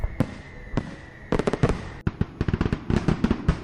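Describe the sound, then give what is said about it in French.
Fireworks bursting at a farewell to the old David-Laperrière bridge by the people of the François basin in January 2013: a few sharp, isolated bangs at first, then dense volleys of rapid crackling pops that keep going steadily to the end, with no voices. “C'est par un feu d'artifice que les gens du bassin François lui ont fait leurs adieux en janvier 2013, avant qu'il ne soit démoli.”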